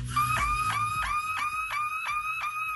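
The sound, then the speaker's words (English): A girl imitates a car alarm with her voice, in a video posted on social media: a steady, repeating series of high, rising whoops, about eight cycles in quick rhythm, loud and clear with no talking over it. “But there's a girl on social media who posted a video of herself sounding like a car alarm.”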